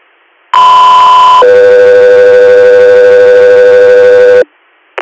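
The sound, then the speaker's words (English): Two loud, steady electronic air ambulance dispatch alert tones play in sequence: a higher pitch for just under a second, then a lower, longer tone for about three seconds, followed by a brief blip. “Alaska 3 Air, stand by for tones.”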